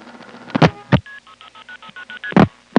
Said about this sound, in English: Now that's a side-by-side comparison. The first ta-da-da was the crossbar one end office. The second one was a local crossbar tandem. And as you can see, it's really the same sound because crossbar tandems are based on number one crossbar.